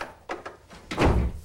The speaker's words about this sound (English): Shut the door